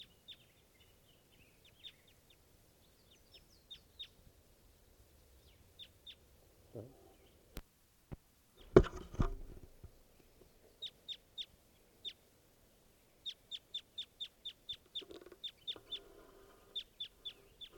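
A wild bird calls in sharp, high-pitched chirps, scattered at first and then in quick repeated runs, with a sudden loud thump and rustle partway through.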